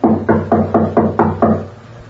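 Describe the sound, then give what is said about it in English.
Seven quick, evenly spaced knocks on a door by a United States counter-spy, firm and hollow-sounding, each fading briefly before the next, with no voices. The last knock rings out into a short quiet tail. “Now, you knock, Peters. I'll cover you.”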